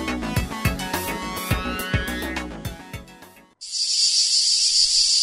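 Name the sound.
cicada chirping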